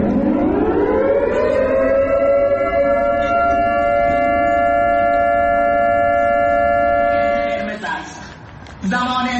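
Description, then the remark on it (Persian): A loud air-raid-style warning siren sounding in Shahin Shahr, Isfahan, Iran, rises from a low pitch and holds a steady, harmonic-rich wail for several seconds, cutting off abruptly near the end with brief background noise. “آژیری که در شاهین شهر اصفهان هم به صدا در آمد.”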